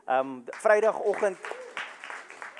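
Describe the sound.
An audience claps their hands for Eileen in her absence, scattered claps building after a brief burst of voices, moderately loud, continuing steadily to the end.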